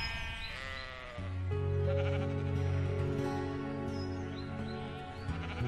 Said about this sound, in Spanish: Pero pienso en su dolor y en el de las ovejas madres. Lloran mucho cuando le quitan a sus hijos. Parecen realmente madres como nosotras.